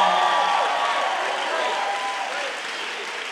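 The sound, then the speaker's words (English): An audience applauds and cheers after being told to make some noise if they believe, dense, steady clapping mixed with whoops and raised voices, loud throughout and easing off slightly toward the end. “If you believe it, make some noise in this place.”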